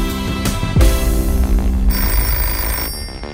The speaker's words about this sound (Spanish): Bruno, Bruno, el teléfono. Bruno, es tu abuelo que quiere hablarte.